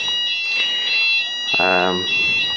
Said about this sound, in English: As you can hear, fire alarm has gone off. It's been going off now for about 15 minutes.